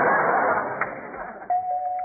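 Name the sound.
doorbell ringing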